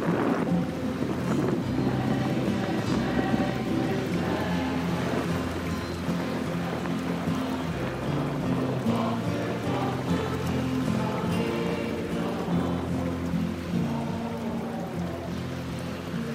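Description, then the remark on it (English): Heavy hurricane rain and floodwater rushing through a flooded downtown make a dense, steady hiss that stays loud throughout, with a low droning hum running underneath and no voices. “Just close your eyes, hear the hurricane, see the water, and then astonishingly, watch the bears go by.”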